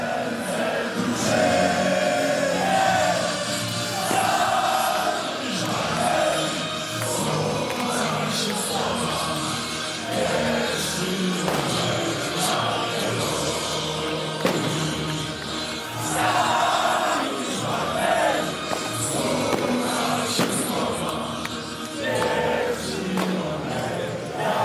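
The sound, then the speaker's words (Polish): A large crowd of football fans celebrating in Białystok on NZS square, with thousands of red flares burning in the rain as hundreds of fans walk toward the players' bus; a loud, dense roar of shouting and chanting voices stays steady, with scattered louder cries rising out of the din. “Teraz setki kibiców idą w kierunku autobusu z piłkarzami.”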